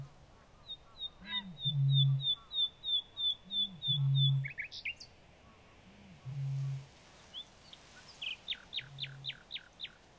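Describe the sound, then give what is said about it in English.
Outdoor birdsong recorded in marsh and heath, with a quick run of high, thin repeated chirps, then sharper whistled notes, over deep low booming calls that recur every couple of seconds against a soft open-air background. “a marsh and heath interlude, and Bob's recording was no whit worse than anything you are listening to tonight”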